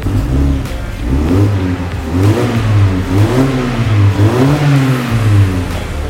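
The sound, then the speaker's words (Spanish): A car engine revs repeatedly from inside the cabin, a deep, loud rumble rising and falling in several pulls with a throaty harmonic tone, no voices present. “Oh, antes no sonaba nada, ahorita está increíble. En un ronroneo.”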